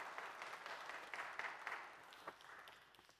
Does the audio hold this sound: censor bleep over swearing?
no